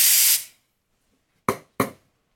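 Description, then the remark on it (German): A steam wand frothing milk for a flat white gives a loud, bright hiss that cuts off within half a second, followed by silence and then two sharp knocks in quick succession. “So, dann nehme ich mir das Glas und dann fülle ich das einfach nach oben hin auf mit der frisch aufgeschäumten Milch.”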